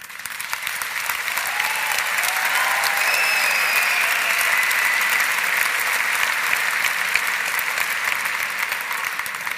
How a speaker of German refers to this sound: Wisst ihr warum? Weil ihr gerade geklatscht habt.